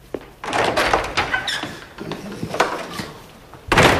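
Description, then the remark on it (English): The front door of Spencer's stately home opens and shuts as Jarvis strides in: a latch clicks, then a run of knocking, rattling thumps and scrapes, ending in a loud, broad closing thud. No one speaks. “Jarvis strides in through the front door.”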